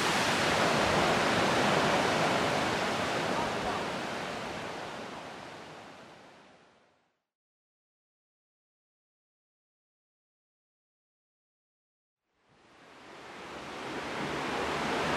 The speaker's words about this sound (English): Well, that was a first where it was hard to even take a proper picture of that waterfall because it sort of misted up the lens on my little camera phone